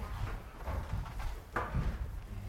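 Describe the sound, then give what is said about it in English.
Wooden scraping and knocking as a chair is brought and shifted into place, with a couple of louder thumps and drags as it is slid across the floor and set down. “here, we'll get another chair.”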